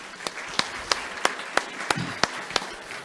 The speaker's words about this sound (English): I want to just honor them at this time with a round of applause, if we could.